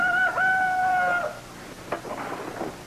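bird, rooster crowing

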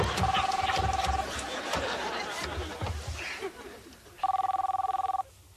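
household object, cell phone ringing

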